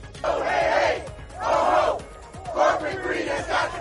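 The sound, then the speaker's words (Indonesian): A crowd of striking United Auto Workers union members chants at a rally in Detroit, Michigan, during a strike against the three biggest US carmakers, in rhythmic bursts, roughly one shout per second, loud massed voices rising and falling in a steady call pattern with no single speaker. “Para anggota United Auto Workers Union atau UAW melakukan aksi mogok dan berunjuk rasa di Detroit, Michigan sejak Jumat”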